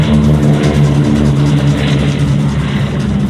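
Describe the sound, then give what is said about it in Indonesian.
A loud, continuous engine roar of a low-flying airplane, with a steady droning hum and broad rushing noise that fills the whole moment without letting up. “Pada saat yang sama, tiba-tiba ada pesawat yang terbang rendah dengan derum mesin yang memekakkan telinga.”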